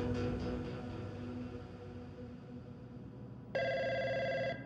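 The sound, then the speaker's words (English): A telephone in Steve Wynn's Las Vegas mansion rings once near the end, in February 2000, a bright electronic trill that starts abruptly and holds steady over a low, murky ambient bed with faint tonal music fading out before it. “Wynn reaches for the phone, barely awake.”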